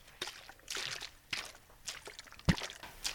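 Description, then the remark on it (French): Several splashy steps slosh through water at a brisk walking rhythm as someone wades across a river, each stride a short burst of churning liquid, with no voices. “Vite, on traversons la rivière.”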